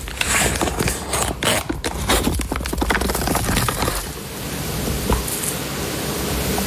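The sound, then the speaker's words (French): Cheese packages being opened, a Munster and then a Langres from France's Grand Est region, and paper unwrapped: a dense run of crisp crinkles and crackles, then a steadier, softer rustling hiss as the wrapping comes away. No one speaks. “Alors là, on entend l'ouverture d'un minster, puis un langre, on retire le papier.”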